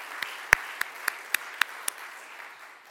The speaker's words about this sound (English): If we could just give her a round of applause to show her our love for her.